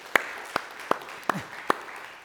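Scattered applause from an audience for a guest who had spoken in Swahili: about five separate, sharp claps spaced unevenly apart, each crisp and moderately loud over a faint low background hum.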